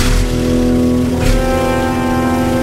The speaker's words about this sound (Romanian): Camionul se opri în fața casei Brumelă cu o frână bruscă.